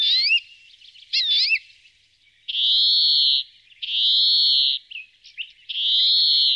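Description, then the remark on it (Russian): A European greenfinch sings, opening with a couple of quick twittering trills, then three long, drawn-out buzzy wheezes separated by short pauses, loud with no voices. “А это зеленушка, обыкновенная”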